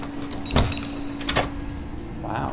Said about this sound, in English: I guess I should describe what's going on here. We're in an underground lab, deep, deep underground, and Professor Angel is opening a drawer and bringing out... Is that a brain?